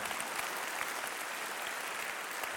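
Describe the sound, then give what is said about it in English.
Steady applause from an audience during a sermon, a dense wash of many hands clapping at a constant level with no pauses, heard on its own without anyone talking. “That'd be a great place to clap.”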